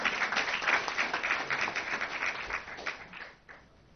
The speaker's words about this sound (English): And Justin Hornsby, who is our student, couldn't be here. This is senior finals week, so he's busy studying, but we should clap for him as well.